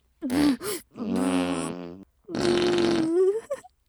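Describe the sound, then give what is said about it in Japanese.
A voice imitates fart noises: three loud, drawn-out buzzy bursts with short pauses between them, and no words. “おならがバーン。”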